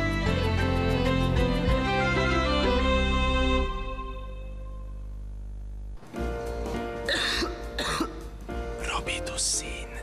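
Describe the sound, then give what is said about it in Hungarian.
A short musical jingle fades out, then after a brief pause a person coughs repeatedly, several harsh, loud coughs in an uneven burst. “Köhögés sosem jön jókor.”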